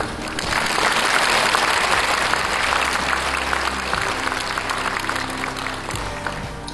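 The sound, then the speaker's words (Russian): A large crowd applauds steadily, greeting a draft document of the Russian Orthodox Church just read aloud, a dense, even wash of clapping that holds at a fairly loud level for several seconds without any voices over it. “Надеюсь, что оглашенный мною проект документа, встреченный вашими аплодисментами, будет дополнен, если появится такая необходимость, с вашим участием, и принят Священным Синодом Русской Православной Церкви.”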